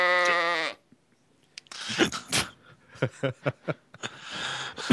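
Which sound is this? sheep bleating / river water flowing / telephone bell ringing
sheep bleating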